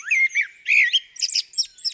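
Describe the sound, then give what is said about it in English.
A common blackbird (Turdus merula) calls in a quick run of harsh, squawking chatters, several short bursts with brief gaps, clear with no other sounds around it. “The bird you are hearing here has no idea that some people call it a blackbird.”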